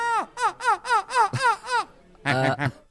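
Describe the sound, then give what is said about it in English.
A Belgian man's voice mimics a seagull with a rapid series of six high, downward-swooping cries, followed by two harsher, squawking calls, fairly loud with nothing else behind it. “So what you're about to hear may be a Belgian man being a seagull or maybe a seagull.”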